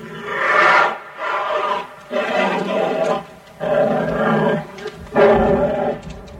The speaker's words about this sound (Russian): А бурый медведь, вот он, стоит на задних лапах в клетке и ревет.